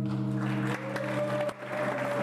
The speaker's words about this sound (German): Kurzer Beifall, dann wird wieder andächtig gelauscht.